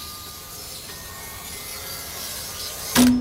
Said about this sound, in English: You see here, this is the machine that cuts the mirror. He buys these giant sheets of reflective glass, and he slices them into little pieces.